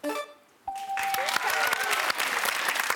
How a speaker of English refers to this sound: Good reason to clap.